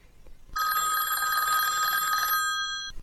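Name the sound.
telephone bell ringing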